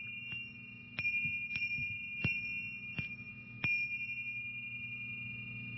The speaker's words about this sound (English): Now, the Tibetan bells have different numbers of metals in them depending on the quality. These are seven metal bells here. First is the double bell. These things look like two little spaceships suspended with a rope between them.